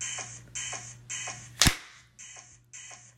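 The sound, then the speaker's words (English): A single sharp, loud whip crack snaps out midway through a steady series of high, buzzy electronic beeps pulsing about twice a second, with a low hum underneath and no voices. “Oh, I will continue to whip you anywhere I fucking want while you get fucked.”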